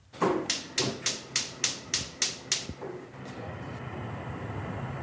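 A gas stove in a shiny chrome-steel kitchen being lit: the igniter clicks about nine times in a steady, rapid rhythm, sharp and bright, then the burner catches with a soft, continuous whooshing hiss of flame.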